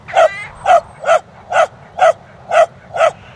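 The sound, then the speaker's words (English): A dog barks seven times in a quick, steady rhythm, each bark short and sharp, fairly loud, with no voices alongside. “They are swans, answers a dog running by.”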